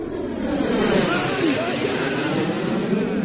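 A steady, broad roar of a Pluna airliner in flight, holding loud and even as it passes, with a faint high whine drifting downward over the noise.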